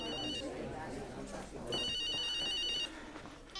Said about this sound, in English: Oh, I cannot believe you've got your phone switched off. I'll just go outside to answer it.